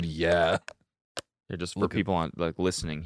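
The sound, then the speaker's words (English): A magnetic battery pack snaps onto the back of a phone with a couple of short, sharp clicks in a brief pause, the second crisper, while people talk before and after. “This is the sound of it just magnetizing to the back.”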